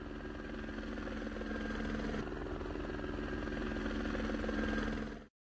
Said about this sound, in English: The helicopter flies to the hospital.